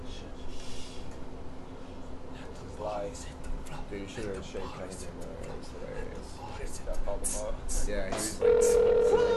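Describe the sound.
A steady electronic ringing tone of an outgoing phone call to someone in California sounds near the end, clear and fairly loud, after a stretch of muffled voices and background clatter.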